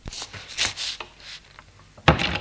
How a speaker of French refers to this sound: Sort et referme la porte.